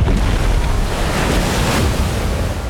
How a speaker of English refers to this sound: Massive waves erupted, like watery claws pulling at the beast's frame. He struggled to stay afloat, but soon he slipped beneath the waves.